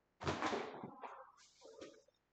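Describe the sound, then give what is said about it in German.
A door being opened by an old grandmother: a loud rattling clunk of the latch, then a softer creak and scrape as it swings, with no voices. “Die Oma öffnete die Tür.”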